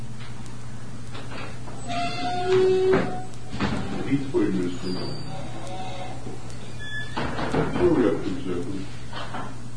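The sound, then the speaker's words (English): A door is opened with a short squeaky creak and a few dull clunks of handling, then more shuffling knocks later, over a steady low hum with faint voices. “I may open the door.”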